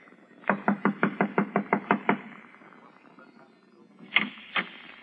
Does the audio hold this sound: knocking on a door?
yes